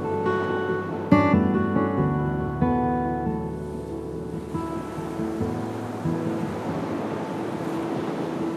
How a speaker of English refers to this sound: You're watching the waves ebb and flow, and they're slowly coming in. And then comfortably and calmly flowing back out again.